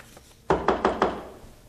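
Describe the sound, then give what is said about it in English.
Four quick, evenly spaced knocks on a wooden door, fairly loud, each a sharp thud with a brief ring-out, demonstrating knocking on doors when going door to door. “There's an ordinance that's come about on going door to door and going like this.”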